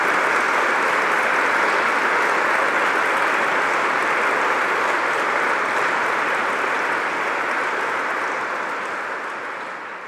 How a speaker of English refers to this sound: Seniors, those here to honor you, give yourselves a round of applause for a job well done. We salute you.